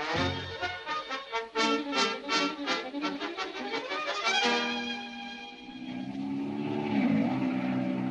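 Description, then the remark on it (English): A loud, droning engine of a hired airplane in flight hums steadily with throbbing, pulsing harmonics, then settles into a smoother roar that swells and rises in pitch near the end as the plane does a barrel roll. “Say, have you ever been up in a plane?”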